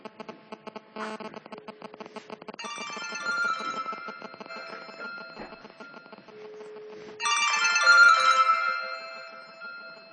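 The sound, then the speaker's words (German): A mobile phone's electronic ringtone plays alone as a call is being connected, starting with rapid repeated beeps and swelling into a bright melodic tune with harmonic tones, loud. “Ich bestätige die Frage mit OK. Diese Bernd Handy 1 wird hergestellt.”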